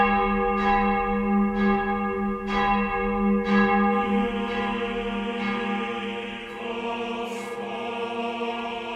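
large church bell ringing

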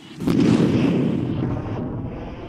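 bomb explosion

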